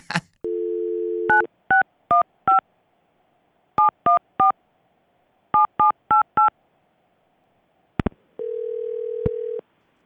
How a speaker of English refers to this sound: Okay, dial that number.